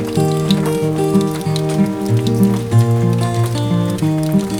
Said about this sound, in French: C'est la pluie qui tapote au carreau de la fenêtre. Écoute, écoute, entends-tu ce joli bruit?